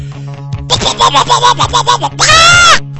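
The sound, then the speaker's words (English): A person imitates a chicken with a quick run of about eight rhythmic, throaty clucks, then ends on one loud, drawn-out nasal squawk. “if you would be so kind, would you demonstrate your prowess and show me your chicken clucking?”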